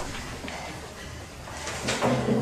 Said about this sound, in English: Pounds against her bedroom door.